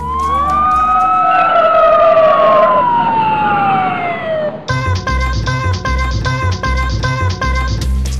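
A loud emergency vehicle siren of rescue services sent for a dog hit by a car at the corner of Juárez and Morelos wails with a long, sliding pitch for several seconds, then cuts off abruptly as a steady rhythmic beat takes over.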